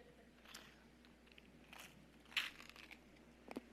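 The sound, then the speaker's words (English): Quiet crunching as small hard Tic Tac mints are chewed, a handful of irregular crisp bites spread over a few seconds, with no talking. “I just chewed that.”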